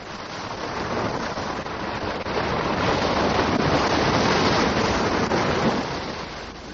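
Steady, hissing surf of sea waves breaking on a rocky shore, swelling louder through the middle before easing slightly, with no voices present.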